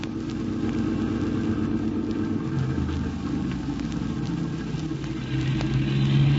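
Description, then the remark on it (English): Steady roar of car traffic on a highway, a continuous low engine and tire rumble that swells slightly near the end as a vehicle goes by. No one speaks. “Did you notice that car? The one that just passed?”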